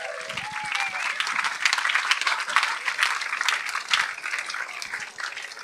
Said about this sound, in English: Come on, hula hooper. Here it comes. Here comes our hula hooper. Round of applause.